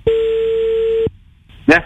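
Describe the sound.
One long, steady telephone ringing tone sounds for about a second over a thin phone line, then cuts off; after a short pause a voice briefly answers.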